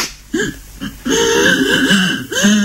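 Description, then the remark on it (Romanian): Someone whimpers in a few short, breathy catches, then breaks into a longer, wavering sob that rises and falls in pitch, fairly loud and with no talking over it. “Ei, nu plânge.”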